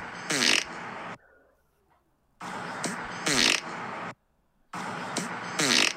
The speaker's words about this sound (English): check out this fart I did the other day. You ready for this? Yes, sir. Can you hear this?